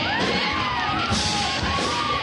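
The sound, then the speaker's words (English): A loud crowd cheers and whoops for a band in a dense, steady wash of shouting voices, with a few higher yells rising above the roar. “The crowd loves them.”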